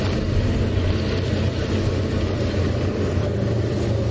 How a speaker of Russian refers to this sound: Шум мотора КамАЗа теперь единственный звук, который можно услышать на побережье Оки близ села Константиново.